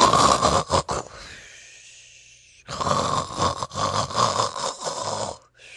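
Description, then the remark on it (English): Loud, rasping snoring of the story character Tommy Brock, snoring industriously with a snort: a short snorting burst, a quiet pause, then a long rattling snore that rumbles on for several seconds before cutting off. No one speaks. “Tommy Brock snored industriously, with rather a snort.”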